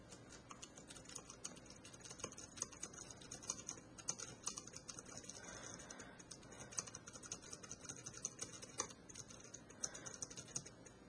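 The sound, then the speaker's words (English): Soft, quiet key presses tapping steadily on the keyboard of a Refresher Braille 18 braille display, with irregular clicks spread across several seconds and no voices. “Now I can type on the Refresher Braille 18's keyboard.”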